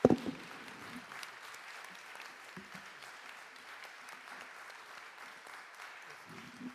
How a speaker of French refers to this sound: Je vous propose que nous applaudissions encore une fois chaleureusement nos intervenants.